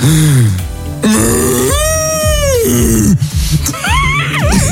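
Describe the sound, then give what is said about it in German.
A person imitates a Bavarian cow with a string of loud, drawn-out moos, the voice sliding and wobbling in pitch, ending in higher warbling wails that sound strained and exaggerated. “Imitiere eine bayerische Kuh.”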